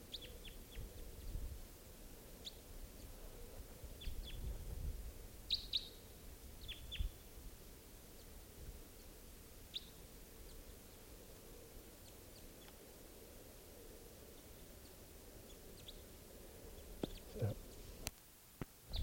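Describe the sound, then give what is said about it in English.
A pair of birds, one on a net wire and one in a tree, chirp in short, scattered bursts, a few quick high tweets at a time with pauses between, over a steady low outdoor rumble. “Just rushed those birds, missed them. At least missed the one that I tried to get, and they're still here, around here.”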